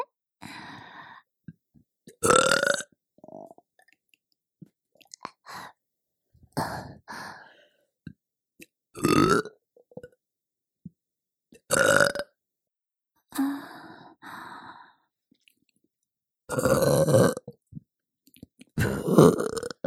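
A series of loud burps, about seven or eight of them, coming in irregular bursts separated by short pauses, with no talking.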